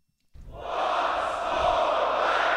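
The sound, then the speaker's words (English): A large crowd at a sold-out live show in London erupts into loud, sustained cheering and roaring after a brief moment of silence, the broad wall of voices holding steady for a couple of seconds. “Sold out crowd.”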